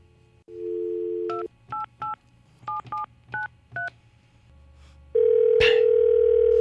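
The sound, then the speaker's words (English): A phone number for a puppy house breaking service is dialed: a brief dial tone, then about seven sharp touch-tone beeps in an uneven rhythm, and finally a steady, loud, lower hum with a click. “Now they got an answer machine.”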